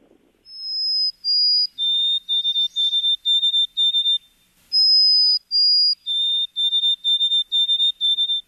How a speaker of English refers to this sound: Should we cue up track four and play the white-throated sparrow?